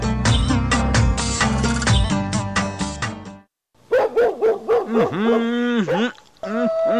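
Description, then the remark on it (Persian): A dense burst of music-like sound breaks off, and after a short silence jackals yelp and howl in overlapping, rising-and-falling cries that keep going to the end. “تو مزه میتا شغالا شما چی حال انداختین تو بگو خو؟”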